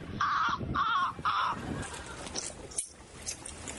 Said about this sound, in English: The number one reason folks say they come on tour groups to see those human-like flightless birds, the penguins. And then they... and then they cry when they're hungry.